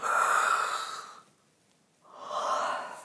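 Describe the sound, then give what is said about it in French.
A drawn-out yawn while stretching at the end of a relaxation session: a long breathy inhale that fades, a brief pause, then a second airy swell of breath. No talking. “Je m'étire agréablement, je bâille.”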